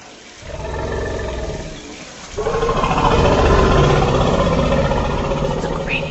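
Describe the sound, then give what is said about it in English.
An elephant gives a deep, rumbling roar, first a moderate swell, then a louder, sustained bellow that stays strong for several seconds, with no talking. “That is an elephant.”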